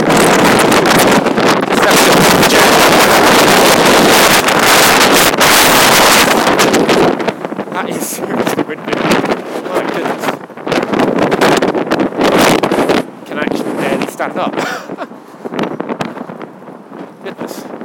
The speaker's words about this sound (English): Wow. That is a very wind, very high wind. I think it was because it was being channeled by the buildings on the other side of the road. But my goodness.